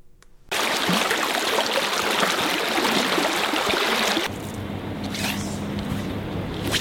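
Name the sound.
river water flowing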